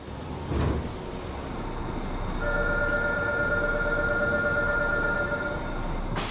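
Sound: train passing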